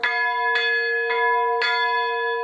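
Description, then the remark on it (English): The large historic bell of First Congregational Church in Kalamazoo rings loudly, struck about twice a second, each stroke blending into a sustained, shimmering resonance that never fades between hits. No voices. “First Congregational Church is planning to restore the bell, but the history of Kalamazoo churches raises questions about which one the bell belongs to.”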